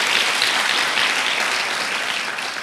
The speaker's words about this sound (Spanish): ¿Por qué no le das un aplauso a Dios por eso?